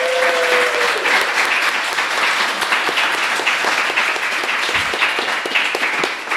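A crowd breaks into a steady round of applause, dense overlapping claps sustained at an even loudness for several seconds, with a brief faint tone fading out at the very start.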